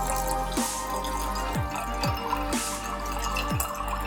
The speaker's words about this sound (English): Pour about 100 milliliters of mango juice into a tumbler full of ice.